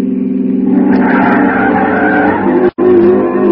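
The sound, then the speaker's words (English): An old pre-war car's tires squeal loudly as it turns sharply, a sustained shrill skid over a rough engine roar, with a brief sudden break near the end before the screech resumes. “I turned. It's an old car, pre-war. It sounded like it was splitting at the seams.”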